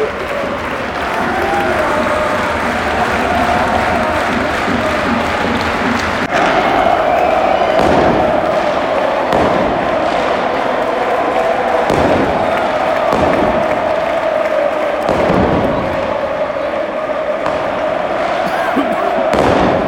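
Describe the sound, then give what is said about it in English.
Fireworks and pyrotechnics go off in the home end of a packed stadium: a half-dozen sharp, booming bangs at irregular intervals punch through a constant loud roar and clapping from the crowd. “Fireworks are out. Suddenly loads of pyrotechnics in the home end.”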